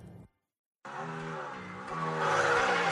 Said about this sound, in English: You can't feel the roar of the engine through this.